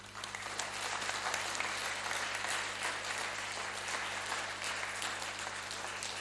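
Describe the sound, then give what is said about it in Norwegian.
A church audience claps steadily for about six seconds, a dense, even patter of many hands that holds a constant loudness throughout, with a low steady hum underneath and no voices. “Vi gir deg en klapp til han.”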